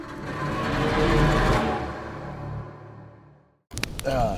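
Distant thunder during a storm with little rain falling rolls in a long, low rumble that swells and then slowly fades over a few seconds before cutting off, followed by a brief burst of other noise.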